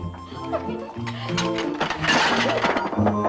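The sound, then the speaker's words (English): Two teacups tumble off a table as a stack of plates, cups and a saucer is set down, with a quick clatter of ceramic clinks and a crash midway through, loud, over steady background music. “As she sets them down, two teacups tumble off.”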